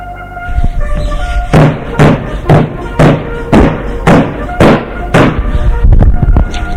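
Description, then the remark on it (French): A fist pounds heavily on the closed door of a fort, about eight loud, booming thuds in a steady, insistent rhythm, with music playing underneath. “Frank, apeuré, furieux, se mit à frapper du poing sur la porte du fort.”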